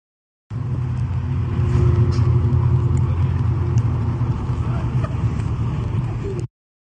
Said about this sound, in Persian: آره، کامیون های پالایشگاه شیراز، اینو هم ببینیم.